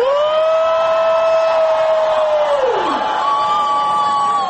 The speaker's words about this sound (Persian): شما هم بهشون با یه هورای بلند تبریک بگین.